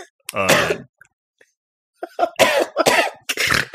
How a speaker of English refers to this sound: Just comfort him, get him to stop coughing, get his cough to ease.